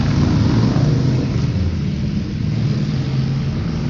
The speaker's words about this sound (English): I kind of like the sound of motorcycles. I ain't gonna lie, so I just stopped to listen to them. They sound cool. Everybody likes horsepower, right?